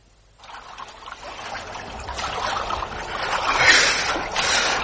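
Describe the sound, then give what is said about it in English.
Water splashes and sloshes steadily as people swim in cold water, a continuous churning that starts abruptly and swells louder toward the end, with no voices. “The water's devilish cold for a bathing party.”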